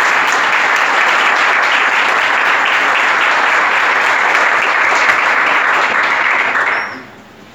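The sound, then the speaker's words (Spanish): A crowd claps loudly and steadily for about seven seconds, a dense wash of many hands applauding the people behind a health project, before the applause quickly fades out at the end. No one speaks. “Así que nuevamente un aplauso para ellos.”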